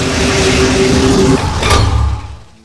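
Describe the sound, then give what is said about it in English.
A huge iron-braced door grinds open with a sustained metallic creak and rumble, ending in a sharp clank before the low resonance fades away. Loud, with no voices. “Right before he thought to crash headlong into it, the door opened directly into a long, broad hall that grew indistinct in the murky distance.”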